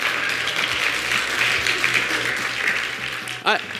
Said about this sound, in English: It's a weird thing that you're clapping at that, but I think we all want it.